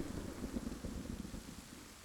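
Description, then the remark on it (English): A steady roar of stormy weather, with gusting wind noise over a deep continuous rumble like thunder, and no one speaking. “Yet, somehow, we dragged ourselves on into the storm.”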